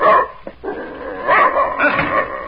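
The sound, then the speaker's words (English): A large German shepherd dog named Savage barks loudly, a few rough, drawn-out barks spaced unevenly with short pauses between them, and no talking over the top. “Keep that animal away from me. German shepherd dog, that's what he is.”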